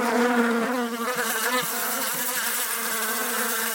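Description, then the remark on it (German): Bees buzz steadily in flight, a dense, continuous drone with a wavering pitch, loud and unbroken for the whole stretch, with no voices. “Aber sie unterscheiden sich natürlich im Sound, zum Beispiel darin, wie sie fliegen.”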